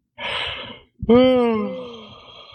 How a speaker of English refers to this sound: Oh man, you're yawning.